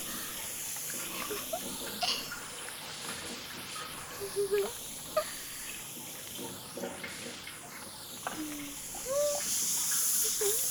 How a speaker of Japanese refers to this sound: シャワーの温度はお熱くないでしょうか。